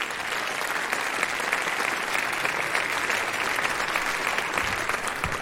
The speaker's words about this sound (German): Ich glaube, dann sind wir bei 8,1. Bei 8,1, das ist ein Applaus wert nochmal.